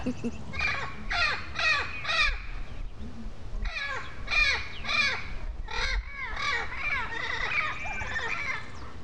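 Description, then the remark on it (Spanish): A person imitating a barn owl lets out a string of harsh, screeching owl-like cries, several quick bursts in clusters, loud, with a raspy, cawing edge and no words spoken. “Grita como lechuza.”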